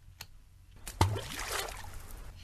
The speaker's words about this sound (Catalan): Continua llançant pedres. Se sent el xof de les pedres en caure a l'aigua. Ara sí, l'efecte xof, sisplau.